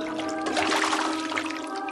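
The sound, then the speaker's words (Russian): Water splashes and churns continuously for two seconds, fairly loud, like someone diving and swimming in the cold sea, with a faint steady tonal backdrop underneath and no voices. “Айда, пошли! Ныряй, поплаваем!”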